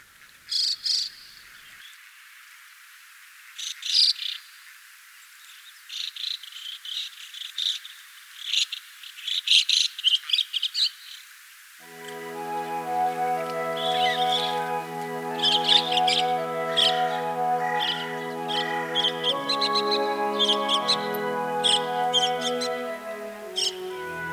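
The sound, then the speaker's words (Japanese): Starlings in Matsudo, Japan, chatter noisily to each other in spring sunshine, in bursts of sharp, overlapping chirps and squeaks; about halfway through, sustained music with a low tone begins underneath while the chattering carries on. “にぎやかに鳴き合うムクドリたち、春の日差しを浴びてオレンジ色のくちばしが輝いて見えました。”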